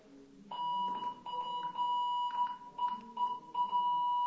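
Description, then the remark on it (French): A common Morse telegraph key of Hassler construction, operated for visitors, sounds a steady, mid-high electronic beep, keyed on and off in irregular short and long bursts with brief gaps. The tone is clear and fairly loud, with no talking. “Oui, nous sommes ici en présence d'un manipulateur morse tout à fait commun, la construction Hassler.”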